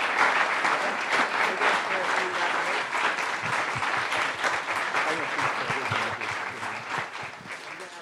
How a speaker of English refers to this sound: If we can just give a round of applause to Bishop and Dr. Timoney and Juan.